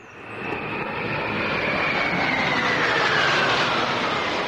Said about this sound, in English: Russian-made jet fighters stream in formation across the Caracas skyline.